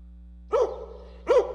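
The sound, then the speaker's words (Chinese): Two sharp dog barks, roughly a second apart, moderately loud, over a faint steady low hum with no talking, in a children's song about three little puppies. “三只小狗，三只小狗，汪汪汪，汪汪汪，抓跳蚤。”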